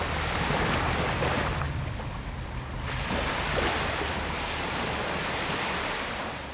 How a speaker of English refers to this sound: We move now from the ever-present soft lapping of the Mediterranean Sea here on the Côte d'Azur